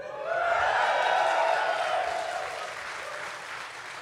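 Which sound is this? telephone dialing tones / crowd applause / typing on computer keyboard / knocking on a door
crowd applause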